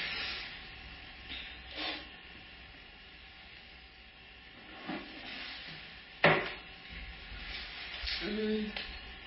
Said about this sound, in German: Ich mag auch nur gerade einen Schluck Wasser trinken.